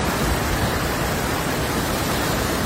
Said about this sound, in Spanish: Esto que escuchas es la fuerza del agua llevándose todo a su paso. 7 personas han tenido que ser rescatadas en Almansa, Fuente Alvilla y Hellín por la repentina subida del agua.